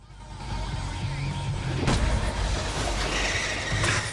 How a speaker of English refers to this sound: Court beams as his van starts and he pulls away.